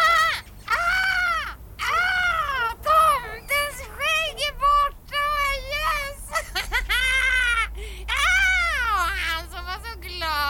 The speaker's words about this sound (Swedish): nu lyfter en av systrarna Kråka som suttit och smält frukosten uppe på taknocken. Och nu flyger hon ut över nejden och kraxar